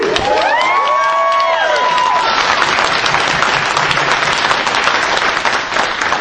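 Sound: audience round of applause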